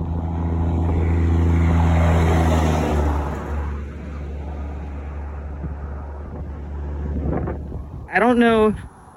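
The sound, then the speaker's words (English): A truck drives past on a road, its deep engine loud at first and then fading into wind and road noise, with a brief high sound near the end. “after this truck we can run across.”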